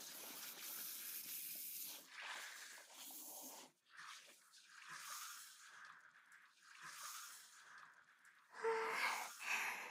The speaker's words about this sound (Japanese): では、シャワーで洗い流しますわ。